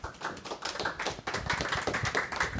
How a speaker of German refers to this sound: Applaus bitte für Matt S. Bukowski.